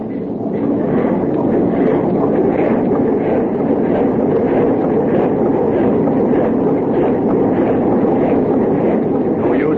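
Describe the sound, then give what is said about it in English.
Heavy ship engines run full steam astern, churning loudly and continuously, a dense rumble with a steady rhythmic pulsing throughout, like machinery straining at full power, as the ship strikes an ice pack head on. “Well, we struck that ice pack head on.”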